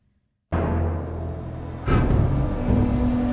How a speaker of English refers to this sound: In this war, San Francisco's tanks look more like Tonka trucks. The dump trucks line up along the beach. A machine with a huge scoop at the end fills each one up with sand. Then they turn around and head south in an orderly procession.